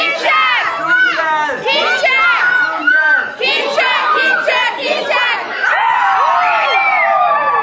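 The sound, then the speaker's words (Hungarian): A crowd of dressed-up children at a jungle-themed celebration shouting and whooping together, high-pitched voices overlapping in a loud, continuous burst of excited cheering for several seconds. “Hogy a hallgatóknak tudjuk érzékeltetni az alkalom jó hangulatát, egy kis felvételt készítettem a gyerekekkel.”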